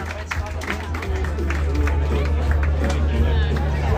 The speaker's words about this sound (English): But for now, here is the well-earned applause.